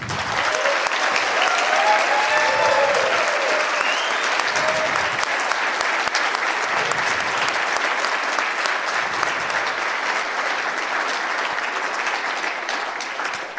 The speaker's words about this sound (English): So I think that's a big aspect to give a big round of applause to the speakers.